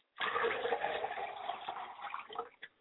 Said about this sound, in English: Ladies and gentlemen, we do this in remembrance of our ancestors. It's customary, and it is in order that we ought to line our glasses up, all seven of them, and pour water in them on our altar.